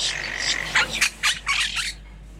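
A parrot squawks in a rapid run of harsh, raspy bursts, four or five loud screeches in quick succession over a steady low hum, with no talking.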